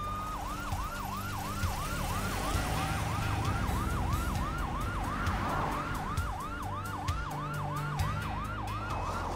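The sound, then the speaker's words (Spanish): An ambulance siren wails in quick, repeating rising-and-falling cycles, loud, over a low rumble of traffic and engine noise, with no one speaking, as paramedics take an injured woman to the hospital in Hilo. “Los paramédicos la suben a la ambulancia para llevarla al hospital de Hilo.”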